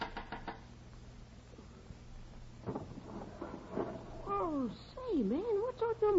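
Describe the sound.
A quick burst of four or five sharp knocks on a window, reached by climbing up a fire escape, near the start. After a pause comes a voice with a rising and falling tone.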